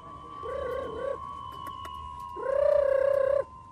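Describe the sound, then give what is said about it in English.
Pigeons cooing at a coop in an old hutong in Beijing: a short soft coo, a pause, then a longer, louder coo, with a steady faint hum running underneath and no voices. “back at the pigeon coop in his old hutong, ready for another day in the express mail van.”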